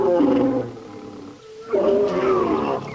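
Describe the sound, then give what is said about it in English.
Two lions on the hunt for a pangolin roar in two long, rumbling bursts separated by a brief lull, deep and harmonic with a growling rasp, loud and without any talking. “Two lions are on the hunt for a pangolin.”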